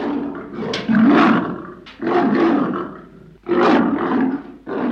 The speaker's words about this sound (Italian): L'orco si trasformò davvero in un enorme leone.